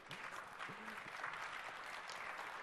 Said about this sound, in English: I heard somebody clapping. I like that.